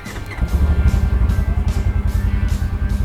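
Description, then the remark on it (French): A side-by-side (SSV) off-road vehicle's motorcycle engine with automatic clutch rumbles steadily as it sets off for a ride, its low throb pulsing rhythmically with brief surges in revs, loud and continuous with no voices. “C'est un moteur de moto avec un embrayage automatique.”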